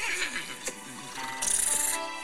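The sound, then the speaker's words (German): A voice actor imitates the whinny of a guest horse named Ella, a wavering, bright neigh with a rising burst and a shrill, fluttering high-pitched stretch near the end, fairly loud and without other talk. “Was ist das, ein Pferd oder? Und weibliche Tiere.”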